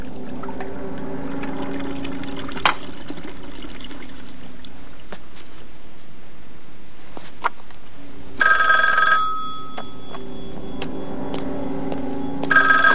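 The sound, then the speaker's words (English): A telephone rings twice, loud, the second ring cut short, after a stretch of quiet with a low background hum and a few faint clicks. “He's gonna phone Wendy up in a few minutes to tell her.”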